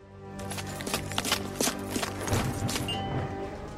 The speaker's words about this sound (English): But now the enemy is trying to disorient you by moving to a different position. Pay attention to his footsteps to find the direction in which he will move.